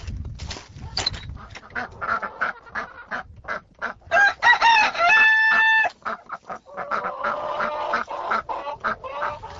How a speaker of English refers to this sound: So we'll go out and feed the chickens.